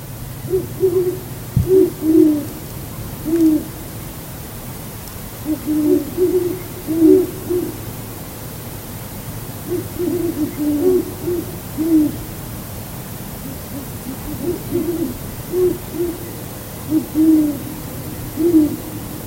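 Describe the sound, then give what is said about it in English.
Several owls hooting outdoors at night outside a house west of town, calling back and forth in repeated soft, low hoots, with a steady low hum in the background and no talking. “There's a bunch of owls. That was outside my house, west of the town there a bit.”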